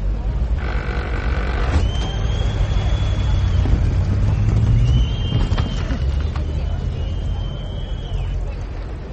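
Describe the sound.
Heavy engine rumble of vehicles pulling away as prisoners are hanged, with scattered crunching and cracking noises and creaking ropes over the steady low drone, some faint high whines and a murmur of voices in the background.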